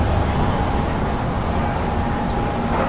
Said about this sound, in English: Okay, I guess you just have to cross. Cars keep coming.